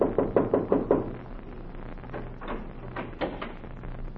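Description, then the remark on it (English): Knocking on a door: five quick, firm raps in a steady rhythm, followed by a pause and a few softer, scattered knocks over a low background hum. No one speaks. “And so he went out to heal the heartbeats of the world, to look into hospitals across the country, and to knock on any door to enter the house of the sick.”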